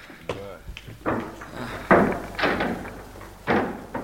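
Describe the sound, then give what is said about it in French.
An elevator door is opened, a series of clattering mechanical bursts and scrapes, while indistinct voices murmur underneath. “Allez, vous autres, ouvrez la porte de l'ascenseur et asseyez-le sur la banquette.”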